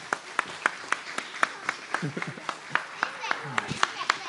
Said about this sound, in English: Give these kids a round of applause right here.